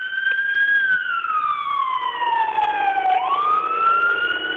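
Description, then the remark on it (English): An ambulance siren wails loudly as an ambulance goes by right by an apartment in Providence, Rhode Island, its tone sliding steadily downward and then rising again as it passes, with road noise underneath and no voices. “And I'm sorry, there's an ambulance going by.”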